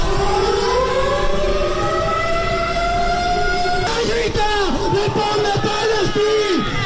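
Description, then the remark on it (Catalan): A loud, sustained wailing simulated air raid siren at a protest in Palma, imitating the sirens that warn Gaza's population of bombings, drones with slowly rising pitch, then shifts partway through into wavering, dipping tones over a dense background of crowd noise. “És la simulació de les sirenes que d'ençà de fa 2 anys sonen a la Franja de Gaza per advertir la població dels bombardejos.”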